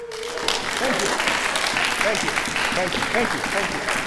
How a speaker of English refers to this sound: Stand up if you were there. Stand up. Clap!